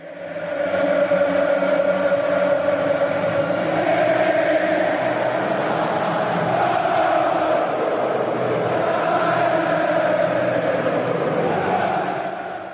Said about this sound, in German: Das erkenne sogar ich. Das waren offensichtlich Jubelgesänge. Klang schon fast so ein bisschen kirchlich für mich.